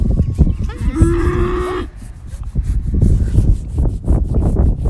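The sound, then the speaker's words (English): A family's single dairy cow, kept among a herd of meat cows, moos loudly: one long low bellow with a rising tonal note in the first two seconds, followed by rustling and shuffling noises of the herd. “And nestled into the herd of meat cows is the family's one dairy cow.”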